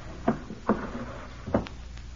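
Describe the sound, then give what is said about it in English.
A wooden bureau drawer is handled and pulled open, giving three short hollow knocks spaced unevenly over two seconds, moderately loud, with no one speaking. “Let's try the bureau. Now, that's an excellent thought. My shirts are in the second drawer.”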